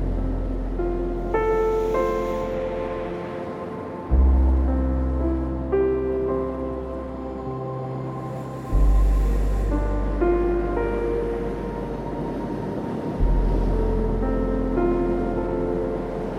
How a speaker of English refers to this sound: The soothing rhythm of the waves.